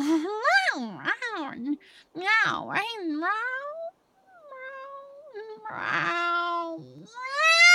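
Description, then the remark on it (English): A person imitates a cat with a string of drawn-out, wavering meows, several in a row with short breaks, loud, rising and falling in pitch like whiny yowls. “Look, I apologize if I cat out. It's just the whole cat. Oh my god, it's just meow.”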